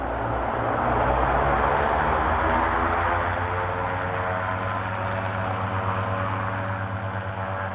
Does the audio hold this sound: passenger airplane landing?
yes